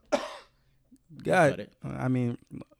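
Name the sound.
cough and throat clearing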